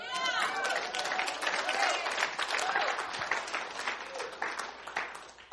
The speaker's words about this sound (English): Well, you can clap if you want.